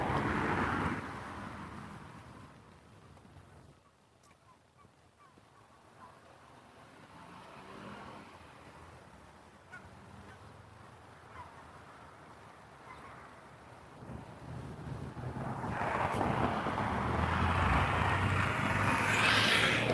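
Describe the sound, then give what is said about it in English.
Many cars pass along a road in the morning, almost 8 o'clock: a loud whoosh at the start fades into a low, steady traffic rumble, then another vehicle swells up loud toward the end. “It's a lot of cars this morning, holy cow.”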